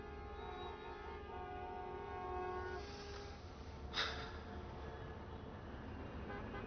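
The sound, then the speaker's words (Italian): Sustained, overlapping car horns blare over a low rumble of idling traffic in a traffic jam for a few seconds, then fade, followed by a short sharp honk amid the steady engine drone. “Vuoi dare la colpa a me se c'è traffico?”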